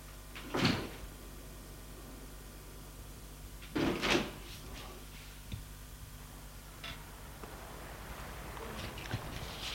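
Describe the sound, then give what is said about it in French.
A door at the end of an alley is opened with two solid wooden clunks about three seconds apart, followed by a few faint taps and soft shuffling over a quiet background hum. “Où se trouve une porte. L'ouvre.”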